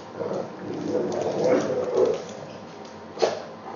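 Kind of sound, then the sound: animal, dogs barking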